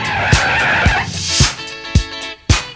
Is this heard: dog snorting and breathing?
no